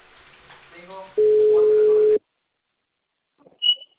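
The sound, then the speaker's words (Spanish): A phone ringback tone of a call placed from a mobile phone by the company Cable Perú sounds once, a steady, loud hum lasting about a second after some brief muffled talk, followed by silence and a short, faint high beep. “Llámale de celular”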